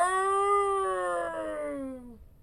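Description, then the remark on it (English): A single long, mournful howl from one of the nameless wolves, waiting on the edge of an endless graveyard. It is held steady, then slides slowly downward in pitch before fading out. Fairly loud, with no talking. “But now, sensing jeopardy for their mistress, Lady Death, the nameless wolves reappear.”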